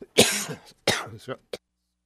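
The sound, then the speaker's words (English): A loud cough bursts out, followed by a second rougher cough and a short throat-clearing rasp, then a brief final hack before silence. “Sorry about that. These cough drops don't work at all, do they?”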